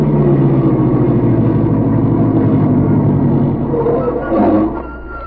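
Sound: car engine idling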